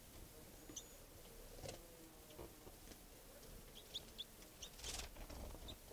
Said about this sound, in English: tree branch, and it's a juvenile bird. And that's 305 chittering there. That was a wild bird flying.